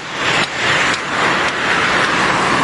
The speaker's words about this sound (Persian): اوه یه ماشین تو کوچه داره میاد بیرون، پارک عجب بد جاست اینجا.